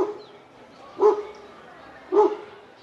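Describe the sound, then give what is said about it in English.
Wild dogs bark outdoors in Venezuela, two sharp single barks about a second apart, over a low steady background with faint murmuring voices. “Outside, amid the barks of wild dogs, a man and a woman from the area who declined to give their last names have a discussion about Chavez and the changes he's brought to Venezuela.”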